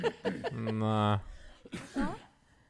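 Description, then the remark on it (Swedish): A short burst of harsh, fairly loud coughing breaks in near the end, following a stretch of voiced talking and drawn-out vocal sound. “nu hostar … så jag hörde inte vad du sa”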